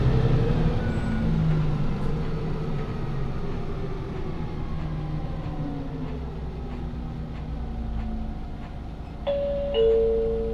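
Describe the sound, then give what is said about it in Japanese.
A Toei city bus heading to Kameido Station pulls away from a stop, its deep engine rumble steady, with tones rising as it accelerates; a short electronic chime sounds near the end. “発車します。おつかまりください。”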